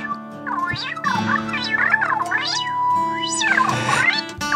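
A cat meows repeatedly, several drawn-out, rising and falling cries in quick succession, over a steady musical backing with sustained low tones.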